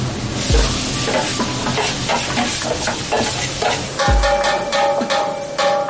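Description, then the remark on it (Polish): Onions sizzle steadily in a hot pan, with repeated scraping strokes of a utensil stirring them through a continuous crackling hiss, fairly loud, no talking. “I dodajemy cebulę.”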